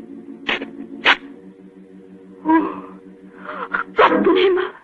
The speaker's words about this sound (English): Can't see a thing. I'll strike a match.